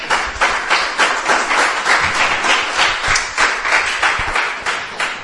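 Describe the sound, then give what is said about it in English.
A crowd breaks into loud, sustained applause and cheering, a cheer for the Lord, dense overlapping claps continuing steadily for several seconds with no one speaking. “the Lord a cheer.”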